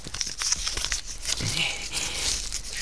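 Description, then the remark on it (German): A small piece of paper, found in a metal band on a pigeon's leg, is unfolded, with dry crinkling and rustling that runs steadily for a few seconds, sharp little crackles over a soft papery hiss, no voices. “Na, seht doch mal, sie hat eine Metallfolie am Bein. Aha, da steckt ein Stückchen Papier drin.”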